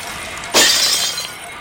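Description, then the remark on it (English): A single sharp crash of glass shattering, bright and loud, followed by a tinkling, scattering tail of fragments that fades over the next second with no voices. “There's the glass extinguisher, but it's behind a wall of fire. Oh, there's a sign below. In case of glass, break fire.”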